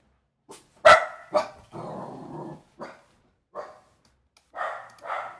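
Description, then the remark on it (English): A dog, Jake, barks at a noise outside the house in a series of sharp, uneven bursts, with a low, sustained growling stretch in between and a couple of quicker woofs at the end. No one speaks. “You got to hear Jake talk. He thought there was somebody at the house, and there wasn't.”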